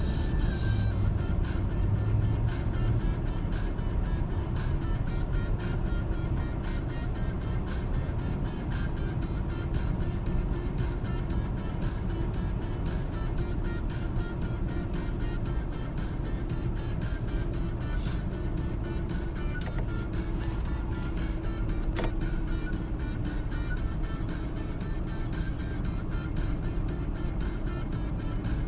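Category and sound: vehicle, car driving on road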